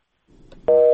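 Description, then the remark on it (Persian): A telephone busy signal after a listener's call to a Radio Azadi phone-in programme dropped: one loud, steady two-tone beep lasting about a quarter second, following a stretch of faint line hiss. No voices. “خب تلفنی دوست ما قطع شد”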